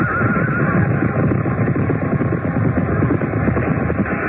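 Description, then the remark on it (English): A horse neighs amid a loud, chaotic din of clattering and commotion during a joust as the king is thrown from his horse, carrying on steadily for a few seconds, with no clear speech. “The king has been thrown from his horse.”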